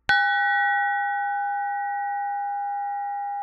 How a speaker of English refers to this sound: Monk Bell 94024.aif.